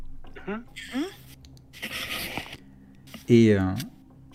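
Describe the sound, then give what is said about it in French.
A pen scratches across paper in a short, steady burst of dry scraping as a woman draws a series of strange characters, set between a few brief wordless vocal sounds, with a louder rising-and-falling voice near the end. “Et puis, juste au-dessus, elle commence à dessiner une série de caractères étranges, mais qui vous rappellent un petit peu ce que vous aviez vu sur les arachnoïdes mécaniques, là.”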